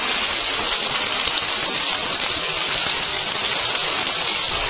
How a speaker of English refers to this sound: A moment ago this was horrendously loud. This is hailstones hitting the glass place roof.